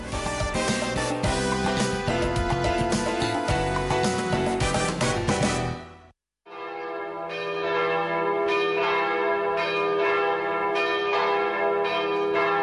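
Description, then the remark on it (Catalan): Church bells open the wedding programme Temps de Bodes on Ràdio Estel, ringing out in a dense, continuous, loud peal with many overlapping strikes; the ringing cuts off briefly, then another round of bells resumes with steady repeated strokes. “Sonen campanes.”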